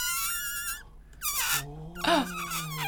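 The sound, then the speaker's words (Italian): A balloon squeals as air escapes through its stretched neck, in three shrill, wavering bursts with short pauses between them, the last one longest and warbling in pitch. “Gonfiamo un palloncino. No, lo sgonfiamo.”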